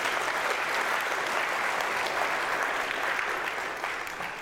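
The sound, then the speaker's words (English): Sustained audience applause, a dense steady wash of many hands clapping that holds at a strong level for several seconds before beginning to taper off slightly at the end. The applause is for a choir after it led worship. “Don't give them a golf clap. Come on, let them know you appreciate them.”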